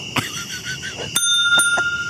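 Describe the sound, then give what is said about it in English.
A small kid's bell rings several times in quick succession, bright metallic dings with a lingering high ring, with no talking. “He's about to ring the bell. And then he bell. Rings a kid's bell.”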